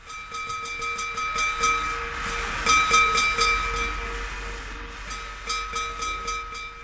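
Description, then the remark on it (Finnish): A locomotive-hauled train runs steadily on the rails, with a rhythmic clatter of wheels and a sustained, whistle-like tonal sound over the rumble, fairly loud, with no voices. “Kas tässä esittäytyi ajokkimme, jonka tuttavaksi alkavan selostuksen aikana tulemme.”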